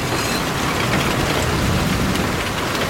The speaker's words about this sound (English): Oh my God, it's absolutely pouring it down now. This is terrible weather.